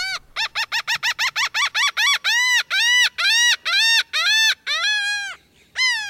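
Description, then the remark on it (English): A laughing gull calls loudly: a quick run of short, nasal notes that slows into longer, drawn-out wailing cries, with no one speaking. Recording by Lang Elliott from the Stokes Field Guide to Bird Songs. “You heard the sounds of a laughing gull in a recording by Lang Elliott from the Stokes Field Guide to Bird Songs.”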